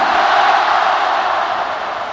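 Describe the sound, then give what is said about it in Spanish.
The Santiago Bernabéu stadium crowd gives Real Madrid defender Rafael Varane a sustained ovation, a loud, dense roar of cheering and applause that holds steady for about two seconds with no one speaking over it. “Esta es la ovación del Bernabéu para Rafael Varane.”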